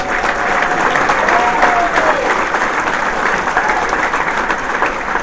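Steady, dense applause from an audience at the 22nd annual Bigfoot Conference at Salt Fork State Park, Ohio, holds a constant level, a broad wash of many hands clapping at once with a faint whistle or cheer briefly rising above it.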